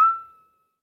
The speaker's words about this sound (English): What about that other whistle? Ready? Ready?